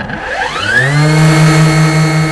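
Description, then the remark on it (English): A WaveJet jet propulsion motor built into a 9-foot surfing longboard, using jet ski technology, spins up with a rising whine, then settles into a loud, steady electric hum with a buzzy, tonal edge. Surfing at Rockaway with choppy surf and the threat of rain. No one speaks. “That's the wave jet propulsion motor built into Adam's 9-foot longboard.”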